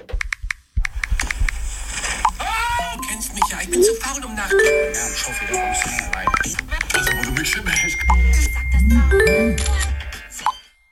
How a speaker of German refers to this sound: Nicht nur, wenn das Handy hat geläutet, dann sei das eine Störung gewesen.